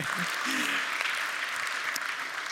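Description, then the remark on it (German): A church audience applauds steadily, welcoming visitors from Balingen and Böhringen: a dense, even patter of many hands clapping at a moderately loud level, with a faint voice briefly audible underneath. “aber es sind sicherlich Leute aus Balingen hier und aus Böhringen und deswegen sehr schön, dass ihr heute so, ja kommt, genau, gebt denen mal einen Applaus, die haben eine weitere Fahrt gehabt als wir.”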